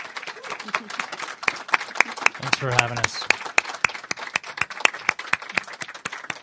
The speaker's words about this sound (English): We're going to have new panelists, new topics, but for now, I would ask you guys, please give these two fine gentlemen a round of applause.